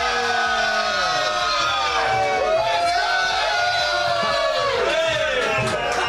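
A live crowd in Munich cheers loudly and steadily for about six seconds, with rising and falling whoops and yells over a dense wash of noise that sounds like clapping, applauding a guest who is a Scotland fan.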